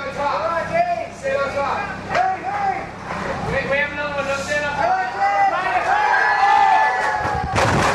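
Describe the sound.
A lively crowd of many overlapping voices shouting and calling out as a man puts the 17th crate onto a stack of crates, loud and continuous throughout, with a brief sharp clatter near the end as the stack crashes.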